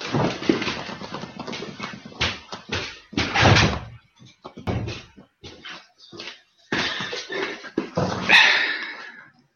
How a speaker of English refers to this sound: Sorry, dog just kind of threw herself against the door and then barged in. Jesus Christ, that was like a tornado.